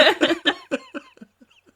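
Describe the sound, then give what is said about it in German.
A woman coughs in a rapid burst of about half a dozen harsh coughs that gradually weaken and trail off into faint, breathy rasps. “Ich rauche, sie hustet.”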